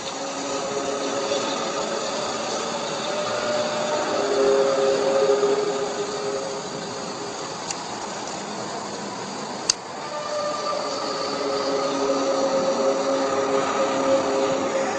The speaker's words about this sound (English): I mean, one could argue maybe it was somebody recording the sounds of a train coming in the distance. So I'll play parts of that one more time. It sounds a little bit to me like a train.